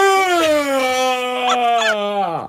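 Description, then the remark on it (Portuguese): A voice imitates the loud, drawn-out yawn of a very sleepy older man in a cinema: one long, strongly voiced tone held for over two seconds, sagging slowly in pitch before sliding sharply down and cutting off. “E atrás de nós estava um senhor com muito sono, mas fazia questão de mostrar todo o cinema que tinha sono, porque quando bocejava fazia.”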